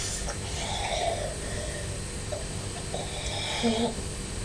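A fizzy drink from a bottle fizzing quietly, a soft, steady crackle of tiny bubbles that carries on evenly for several seconds, with faint indistinct murmuring in the background.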